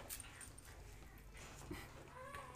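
A dog whimpers softly in short, high-pitched whines that come and go over a low background hum, fairly quiet.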